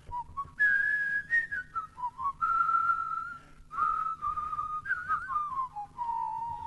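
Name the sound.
person whistling a tune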